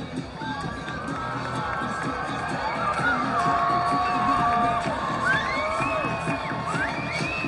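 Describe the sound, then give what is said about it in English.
A large ballpark crowd at a night baseball game in Appleton cheers and roars steadily throughout, with scattered whoops and high shouts rising above the dense wash of voices, holding loud with no pause. “Big crowd on hand tonight in Appleton, and the first time we've heard him make some noise in a while.”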